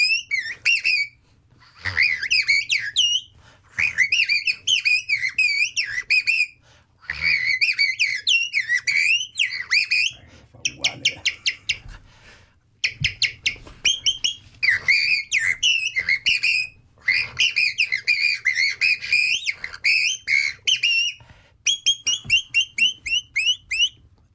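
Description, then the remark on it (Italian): Someone whistles an imitation of a blackbird's song: loud, fluting warbled phrases and rapid trills in repeated bursts separated by brief pauses, with no talking. “Ti richiedeva il merlo, togli la cuffia e vai col merlo. Vai, merlo.”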